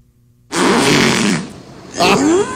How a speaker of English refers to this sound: This is supposed to be a killer whale talking. Here we go. One, two.